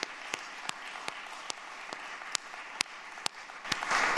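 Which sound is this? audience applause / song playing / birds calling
audience applause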